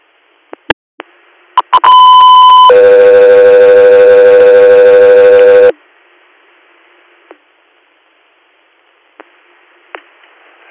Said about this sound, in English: Guthrie Air, standby for tones.